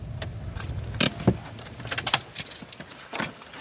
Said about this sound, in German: Rohr biegt auf einen schmalen Weg, hält neben einem anderen Auto an einem Stauwehr.